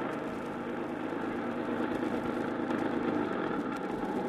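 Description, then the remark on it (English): A truck engine rumbles steadily as the truck, loaded with packing cases, rolls along and then stops; a continuous low drone with no voices, holding an even loudness throughout. “Truck stopped and I worked my way around the packing cases and was just sticking my head out for a breath of free air”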